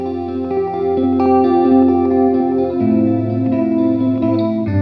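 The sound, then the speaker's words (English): A chorused electric guitar on a lo-fi setting with the tone knob rolled down plays sustained chords and notes in a dark, muffled tone, the high end rolled off so it sounds warm and almost keyboard-like, steady and fairly loud with no talking. “I love this setting with the tone knob rolled down.”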